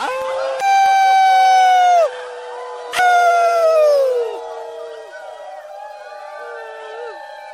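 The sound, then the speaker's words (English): A crowd of people howls together in imitation of wolves at the 25th Earth First Round River Rendezvous, two long rising-and-falling waves of overlapping voices, loud, trailing off into scattered lingering howls. “Okay, first off, I just wanted to say that this is the 25th Earth First Round River Rendezvous, and this is the night to howl, so let's howl, goddammit.”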